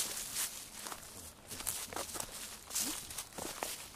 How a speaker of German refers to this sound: Wir laufen wieder auf Steinen. Minus Meeresgeräusche.